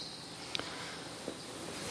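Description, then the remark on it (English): Two short, high squirrel chirps, roughly three-quarters of a second apart, pop out faintly over a steady outdoor hiss, with no voices present. “Squirrels chirp, chirp, chirping away.”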